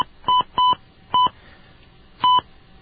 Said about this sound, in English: Please dial your PIN or extension number. Okay, let's see if we can do it a little faster this time. Please dial your phone number followed by the pound key.